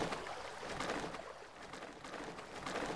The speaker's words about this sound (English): I'm coming up on the river which flows north. Once I reach it, you hear it getting louder.